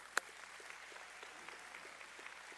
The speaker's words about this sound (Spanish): Aplauso para las damas.